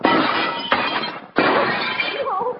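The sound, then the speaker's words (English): A door is smashed in with two loud, heavy crashing blows about a second and a half apart, each followed by a long stretch of splintering, rattling breakage. “Smash it in.”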